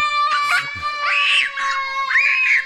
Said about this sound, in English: Could you play The Screaming Kid?